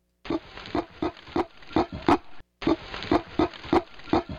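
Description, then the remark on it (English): A female gorilla gives a series of short, gruff cough grunts, a mild threat sound, in quick, fairly regular bursts, low and rasping, with a brief pause partway through before the grunting resumes. “So this is a female that is cough grunting, and it's a mild threat sound.”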